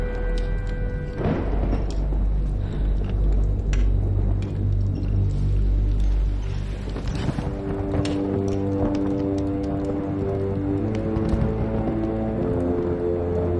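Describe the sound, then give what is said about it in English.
A deep, heavy rumble of thunder during a storm rolls loudly for several seconds, then gives way to a sustained low droning tone. Nobody speaks. “As the thunder crashes, she approaches Elinda's room”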